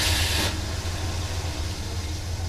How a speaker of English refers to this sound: The truck didn't start. Of course the truck will not start. I tried it again, but this time the engine turned over.